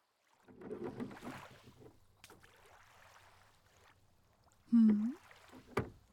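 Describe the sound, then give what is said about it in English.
Oars dip and splash through water as a boat is rowed across a lake, with a brief creak of wood and a knock against the boat, then soft lapping and a final sharp splash. “Crossing the water.”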